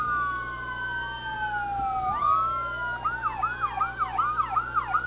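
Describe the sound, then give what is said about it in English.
A fire truck siren in Dimmitt, where several fire trucks are present, sounds loudly with slow rising and falling wails that switch partway through to a rapid, repeating yelp, over a steady low engine rumble. No one speaks. “Several fire trucks here in Dimmitt.”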